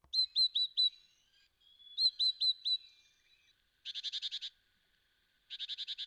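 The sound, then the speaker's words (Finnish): A small yellow-breasted songbird from the mountain regions of Central Europe calling alone: two phrases of four quick, clear, high whistled notes, followed by two short bursts of a rapid buzzy trill, moderately loud. “Tämä on pienikokoinen lintu ja se on alppikalkkuna.”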